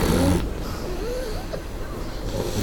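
A short-nosed dog snores, with raspy, wheezy breaths and thin whistling tones over a steady rumbling noise, continuing throughout without any talking.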